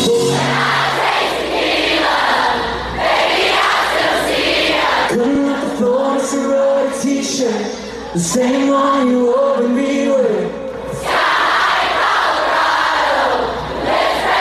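A huge crowd sings along loudly and continuously, massed voices carrying a melody with clear pitched lines over a dense, roaring wash of sound for the whole stretch.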